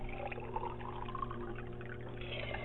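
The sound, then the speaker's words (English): Water pours steadily into a little glass in one continuous stream, a moderately quiet splashing with a ringing tone, and no voices. “And as you're turning in there, I'm just going to run over and grab a little glass of water.”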